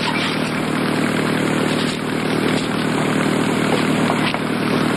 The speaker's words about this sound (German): Deutsches U-Boot auf Feindfahrt im Atlantik.